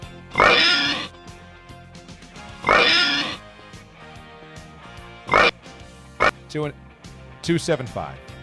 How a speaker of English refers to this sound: give me the oinks.